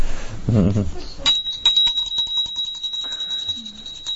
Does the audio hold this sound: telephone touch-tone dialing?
no